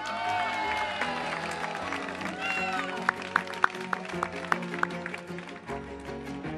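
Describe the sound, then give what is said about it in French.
A large outdoor crowd at the Festiventoux 2010 festival cheers and applauds, a dense wash of shouting voices and clapping, with a handful of sharp, louder claps popping out through the middle. “Voilà, merci donc à cette foule en délire”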